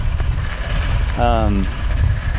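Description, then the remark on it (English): A struggling tractor engine out in a field rumbles loudly and roughly throughout, with a rattly low drone and a brief tonal squeal that slides slightly downward partway through. “or do you notice this tractor out in the field is having a hard time? It's making a really bad rattly sound. That's not a happy engine.”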